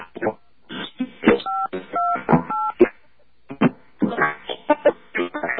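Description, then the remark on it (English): Three short touch-tone key presses on a phone during a test call, each a steady two-pitch electronic beep in quick succession, sounding over garbled, muffled talking that continues before and after the tones. “I'm going to hit a touch tone now.”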